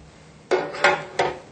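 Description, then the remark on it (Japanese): Three quick clattering knocks as a mold, loosened with a little water and air and then with the water poured off, is turned upside down onto a plate, moderately loud, evenly spaced with short ringing decays. No voices. “少しお水を少し入れてあげると、こうお水と空気をこういった感じに入れると取りやすくなるんで、ここにお水を空気少し入れてあげます。でちょっとお水捨てますね。そしたらこう反対にしますね。”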